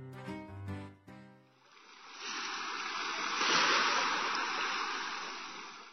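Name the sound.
sea waves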